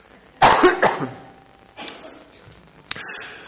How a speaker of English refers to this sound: I'm going to cough and then I'll pray.